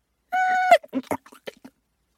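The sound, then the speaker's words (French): A steady, mid-pitched whistle holds for about half a second, then breaks into a rapid string of sharp clicks and short chirps: Poséidon pronouncing a name as a kind of whistling with clicking. “Poséidon prononce alors ce qui est censé être un nom et qui ressemble plutôt à une sorte de sifflement accompagné de cliquetis, un peu comme ceux que produisent les Bushmen d'Afrique du Sud.”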